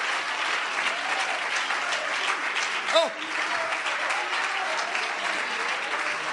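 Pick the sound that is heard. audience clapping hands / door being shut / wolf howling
audience clapping hands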